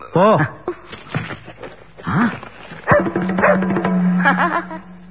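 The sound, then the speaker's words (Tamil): A dog that has arrived in a delivered package, with another envelope tied to its neck, lets out several short, high yelping barks in uneven bursts while people talk over and after them. “கவரை திறந்தா நாயி, நாய் கழுத்துல இன்னொரு கவரு.”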